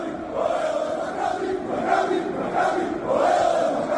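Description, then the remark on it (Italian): A large crowd of opposing football fans, the rivals of Juventus, chants in unison in a stadium, a sustained roar of many voices rising and falling in rhythmic waves, loud and steady throughout with no individual speech. “Questi erano gli avversari.”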